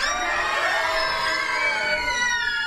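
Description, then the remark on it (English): An audience screams together on cue in one long, sustained burst, many high-pitched voices overlapping into a loud, steady wall of sound that barely wavers for nearly three seconds. “We are going to, at one point, need you to all scream. Let's try screaming.”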